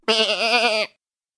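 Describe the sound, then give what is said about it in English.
A single loud sheep bleat lasting nearly a second, with a wavering, quavering tone that cuts off abruptly into silence. “God Made the Sheep.”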